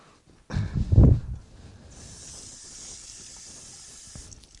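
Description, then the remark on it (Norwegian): A short burst of splashing as water is poured onto a hot surface, followed by a steady, high hiss of steam that lingers for several seconds. “Jeg skal bare ha på noe vann på denne greia her.”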